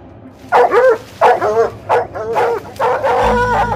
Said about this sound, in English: They brought in a team of cadaver dogs. Dogs trained to find human remains. As the dogs went into the backyard, they each hit on one particular spot near a tree.